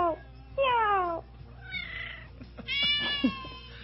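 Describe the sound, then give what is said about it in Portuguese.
A cat meows several times in a row, drawn-out, wavering cries, fairly loud, with short pauses between them and no one talking. “Agora mia aí, dá uma miada aí, vá.”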